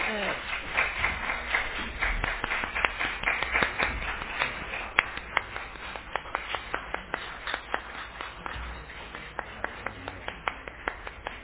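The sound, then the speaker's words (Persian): An audience applauds steadily to welcome geneticist Professor Dariush Farhoud, a dense patter of many hands clapping that gradually thins into scattered, sharper individual claps toward the end, with faint crowd murmur beneath. “با تشویق خودتون آقای دکتر رو همراهی بکنید.”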